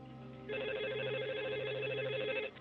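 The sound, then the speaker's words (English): A telephone rings once as a call is placed to the Carrollton 911 emergency line, a steady trilling electronic tone lasting about two seconds over a low background hum, heard clearly with no voices. “When she did, she called 911.”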